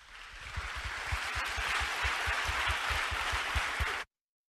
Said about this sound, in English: I wanted you to hear the applause.